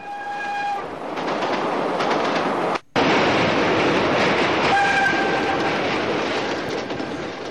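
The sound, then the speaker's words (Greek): A train pulling into the next station rumbles loudly and steadily on the rails, with a sustained horn-like tone at the start and again near the end, interrupted by a brief gap of silence. “Το τρένο μπήκε στον επόμενο σταθμό.”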